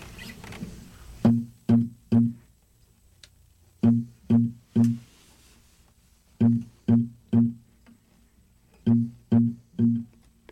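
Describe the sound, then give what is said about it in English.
A guitar being retuned: four rounds of three plucked low notes, each pluck ringing briefly before the next, with short pauses between rounds and no talking. “Let me just retune this guy.”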